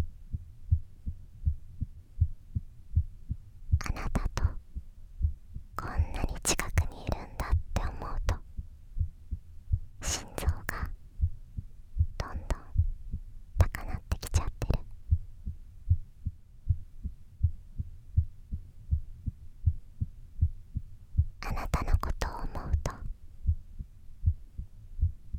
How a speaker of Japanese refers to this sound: 私の心臓の音。トクン、トクンって。ほら。さっきからずっとドキドキしちゃってるの。